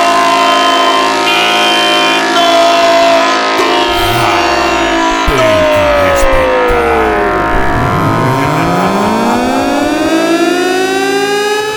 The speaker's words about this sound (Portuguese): LTS, a corneta do racha.